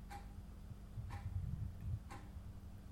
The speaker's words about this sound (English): ticking of the clock. It's all you hear.